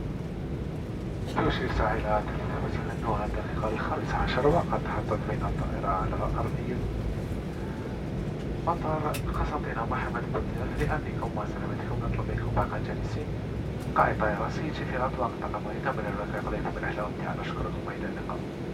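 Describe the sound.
A loud, steady roar of airplane engines fills an aircraft cabin as the plane comes in to land at Constantine Mohamed Bouzif aerodrome in Algeria, with voices speaking intermittently over the constant low rumble.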